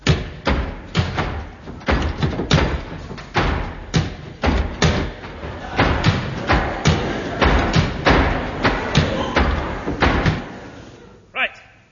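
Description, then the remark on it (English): Doors being closed one after another, a long run of heavy wooden thuds and slams in quick irregular succession, loud, ending with a final sharper knock. “Could we close the doors, please?”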